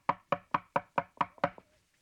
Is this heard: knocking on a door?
yes